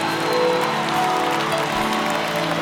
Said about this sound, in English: Come on, give a round of applause. Africa appreciates you.